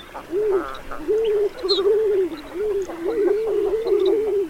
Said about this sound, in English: At least until spring, when king eiders flock by the tens of thousands to croon and swoon on the Arctic tundra once again.